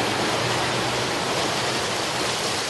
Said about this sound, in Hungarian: A városban akkora felhőszakadás volt, hogy a csatorna már nem tudta elvezetni a csapadékot, az utcákon hömpölygött a víz.